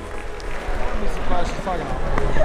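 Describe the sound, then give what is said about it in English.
A lively crowd chatters excitedly as it leaves an auditorium and a party erupts. Many overlapping voices build into a dense, steady hubbub, with occasional higher-pitched exclamations rising above the noise. “The crowd leaves the auditorium and a party erupts. There's excitement and even some tears.”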